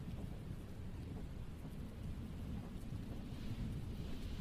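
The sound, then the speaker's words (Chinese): Steady rain hisses without a break while a deep, distant thunder rumble rolls underneath, forming a constant, even wash of storm noise with no voices. “哎，不知不觉就下雨了呢。”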